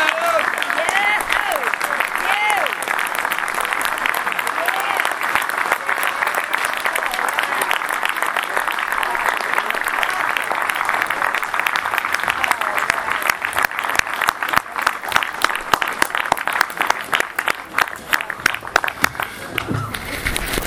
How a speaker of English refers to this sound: Give another round of applause for our speaker, please.